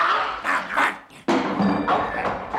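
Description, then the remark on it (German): A dog barks and yelps in a quick series of loud, rough bursts, breaking off briefly before one sharp bark starts a further rapid flurry. “Willst du wohl aufhören zu treten, du verdammter Hund?”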